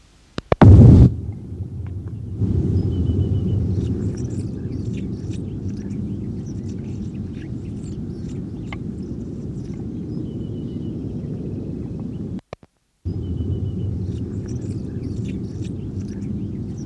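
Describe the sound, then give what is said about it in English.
Four display flights by a juvenile Anna's hummingbird (Calypte anna): one loud, sharp burst near the start, then faint, scattered high chips over a steady low rumble that briefly cuts out. “four display flights by juvenile Calyptiana, the same bird that gave the previous series of songs.”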